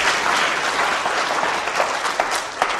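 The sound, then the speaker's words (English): A church crowd applauds the young people steadily, a dense, even wash of clapping that holds at a fairly loud level for a few seconds with no one speaking over it. “Oh, let's give them a clap.”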